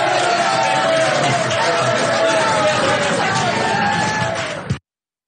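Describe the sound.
Supporters, not reporters, clap steadily at a presidential press briefing, mixed with cheering, whoops and overlapping voices, holding at a loud, even level for about five seconds before cutting off abruptly.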